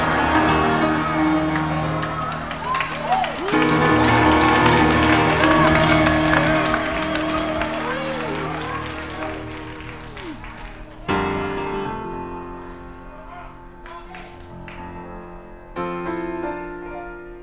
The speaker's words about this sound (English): Y'all threw us off just then? Don't clap till we get it open, then you know where the rhythm is.